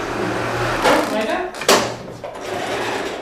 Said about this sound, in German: Hier rattern die Nähmaschinen. Die Kids aus der Georg-August-Zinn-Schule neu verwerten nämlich die alten Klamotten der Kleiderkammer hier und machen alles Mögliche neue aus ihnen, verkaufen sie dann in Flohmärkten hier in der Schule